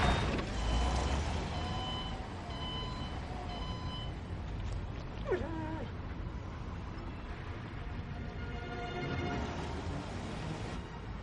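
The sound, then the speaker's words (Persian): A heavy vehicle rumbles as it stops and reverses, a steady series of high reversing beeps repeating over the engine noise, with a brief brake hiss partway through. “هی روک، ماشینو نگه دار، برگرد”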